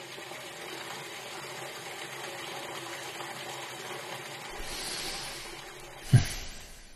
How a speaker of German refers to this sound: Für einen Moment hört man nur das Wasser rauschen.